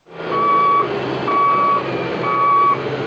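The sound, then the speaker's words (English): A reversing public works truck's backup alarm sounds three steady, evenly spaced beeps over the continuous rumble of its engine, loud, as trucks line up to load sand onto their flatbeds for sandbagging near Chicago. “Public works trucks line up to load sand onto their flatbeds.”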